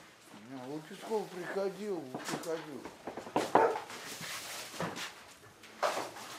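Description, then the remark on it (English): A dog whines in a wavering, rising-and-falling tone, then lets out a few short, sharp barks, spaced irregularly at a moderate volume. “Did you hear the dog? They're home for sure.”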